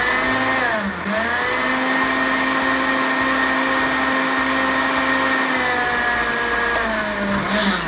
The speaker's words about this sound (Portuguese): A gente coloca tudo aqui no liquidificador. Azeite, a farinha, o leite, sabe? O sal e a noz moscada. Já vamos colocar tudo aqui e bate muito bem para dissolver. Tem que ficar um creme bem liso.